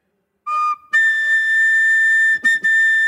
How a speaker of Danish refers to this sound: Okay, men så fløjt i den fløjte der.